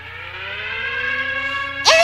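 An air raid siren warning of an enemy attack wails with a steady, rich stack of harmonic tones holding a sustained pitch, followed near the end by a sharp burst of noisy, sliding sound.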